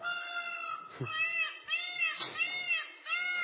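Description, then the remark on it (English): A peacock gives loud, harsh wailing calls, several in quick succession, each a strained, nasal cry that sounds almost like a cat's meow, with no talking. “You'd expect a bird like that to sound different. Something in keeping with its plumage.”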